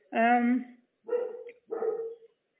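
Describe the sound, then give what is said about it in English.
The speaker's pet dog barks three times in quick succession, each bark harmonic and fairly loud, with short gaps between them and quiet in the background. “Sorry, my dogs are not going to keep quiet.”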